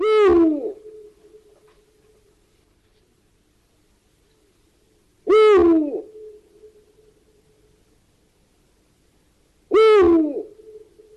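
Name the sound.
eurasian eagle-owl hooting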